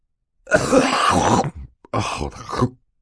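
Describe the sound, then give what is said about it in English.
Someone coughs into a handkerchief in two rough bursts, a longer throaty spell followed after a short pause by a second shorter one, with no talking around it. “Mr. Poe turned red and coughed into his handkerchief for quite some time before replying.”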